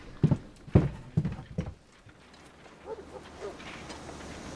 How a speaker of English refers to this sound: Hey, you! Lady with the horses! We need a couple of pullers over here!